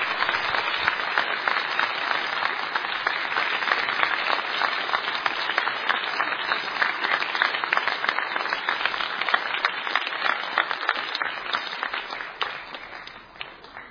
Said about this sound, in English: Let's give them a round of applause, please, again, for their work.